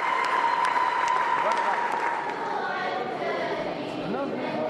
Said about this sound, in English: After the cardinal finished his prepared statement, he looked out at the congregation, raised his arms, and repeated in Arabic, "Salam, salam, peace, peace." The church erupted with applause and cheering, followed by rhythmic clapping.